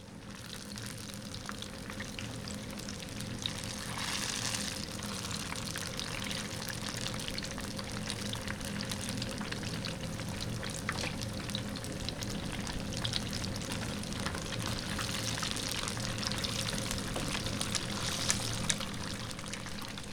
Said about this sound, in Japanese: かまぼこの一番美味しい状態を届けるためにもう揚げたてにこだわってまして、また揚げたてでしかできないさまざまな海と山の幸を使用しています。ということで今日はかまぼこを揚げてもらった音をお届けします。